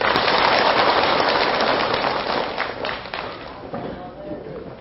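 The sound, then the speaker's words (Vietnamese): A crowd of Buddhist followers at a New Year sutra session at Thượng Sơn pagoda, on the 13th day of the first lunar month of 2016, bursts into sustained applause, loud and dense at first, then gradually thinning and fading over several seconds. “Xin tất cả dâng cao tràng pháo tay.”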